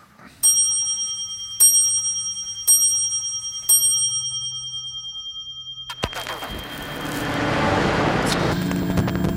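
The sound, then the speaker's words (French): An antique clock of Versailles chimes four clear, ringing strokes about a second apart, each tone lingering, before a wash of broad, rushing noise takes over. “Vous les avez évoquées, ces horloges de Versailles.”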